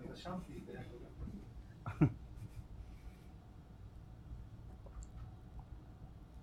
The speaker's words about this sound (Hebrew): אני שותה כל כך הרבה, חבר'ה שבסוף אני אשתכר מהמים.